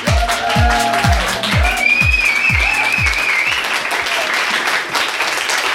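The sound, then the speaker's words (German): Loud, dense applause from a live audience fills the whole clip, with a steady thumping beat and rising synth tones layered over it during the first half before the clapping continues alone. “Vielen lieben Dank. Ein wundervolles Publikum heute wieder hier.”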